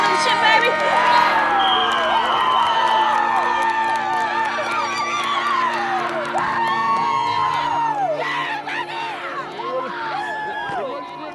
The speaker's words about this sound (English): This crowd's starting to get live. They can sense it.